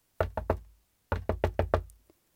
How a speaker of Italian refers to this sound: Infreddolita, la cicala bussò alla porta.